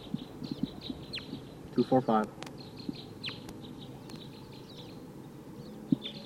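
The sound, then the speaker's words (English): Wild birds call over a low background hum: faint, high chirps repeat throughout, and a louder, rising call with a rich, stacked tone stands out briefly near the middle. “Sounds like wild birds are coming.”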